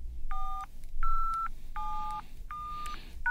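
A quick series of five touch-tone phone keypad beeps, each a short dual-pitched electronic tone separated by brief gaps, heard over a faint low background hum.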